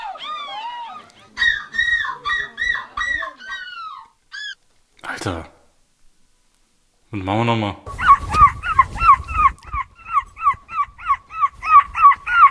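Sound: people imitating seagull cries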